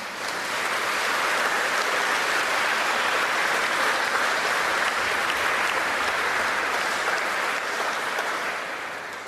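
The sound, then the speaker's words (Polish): Sustained applause from a sizable crowd, a dense steady wash of clapping that holds at full strength for several seconds before easing slightly at the end, with no voices. “Łącząc się, oczywiście tak, wielkie brawa.”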